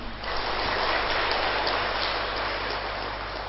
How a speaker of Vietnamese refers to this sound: Hãy dâng cao tràng vỗ tay để tán dương.